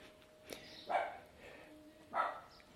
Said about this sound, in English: I'm walking away from that dog. I didn't come here to listen to a dog barking.